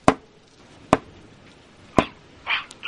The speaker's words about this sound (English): I gotta get this door open. Maybe my rifle can break through.